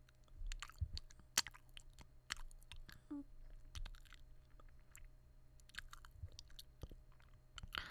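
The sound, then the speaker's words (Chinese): Soft wet mouth sounds of licking a shoulder and gentle biting: licking, smacking and light nibbling clicks in an irregular rhythm, quiet and intimate with no talking. “想舔舔肩膀。”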